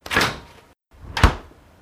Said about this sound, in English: Close the fridge.